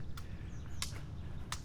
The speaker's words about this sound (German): Ach, über uns die Vöglein zwitschern.